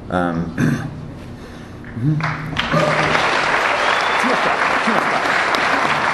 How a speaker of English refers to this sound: We're running out of time. We don't have time for all this clapping.